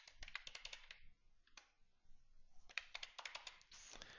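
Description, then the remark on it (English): Bursts of rapid keyboard typing while changes are made in a database application, with crisp key clicks in quick clusters separated by short pauses, plus a single isolated press of the tab key in the middle. No one speaks. “And we hit our tab button on our keyboard one last time”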